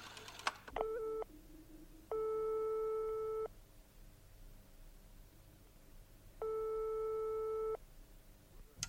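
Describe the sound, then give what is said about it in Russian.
A telephone tone heard after a coin is dropped and a number dialed in a hot phone booth: a busy signal of steady mid-pitched tone bursts switching on and off, with a short first burst and two longer ones separated by pauses, heard alone over faint background hum. “Он забрался в раскаленную духоту будки, опустил монету и набрал номер.”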